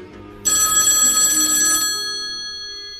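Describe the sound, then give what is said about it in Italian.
A telephone bell rings loudly for an incoming listener call, with a bright metallic clatter lasting over a second. Its tones then linger and slowly fade out. No one speaks. “Ma ora passiamo alla telefonata degli ascoltatori.”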